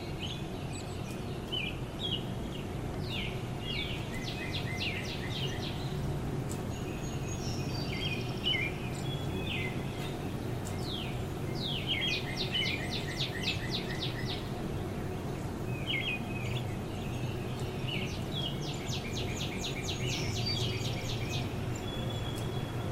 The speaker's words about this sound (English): The robin's getting closer.